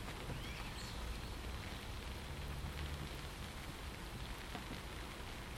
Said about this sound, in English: Nice standing here though, undercover, listening to all that lovely rain. Just magical, isn't it, rain?